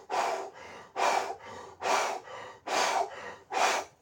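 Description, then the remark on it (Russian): A person demonstrates the intense, deep breathing done in a group breathwork session, breathing forcefully in a fast, steady rhythm like a steam locomotive, five loud, airy cycles, each strong rush of air followed by a softer one, with no talking. “Очень интенсивное, глубокое дыхание.”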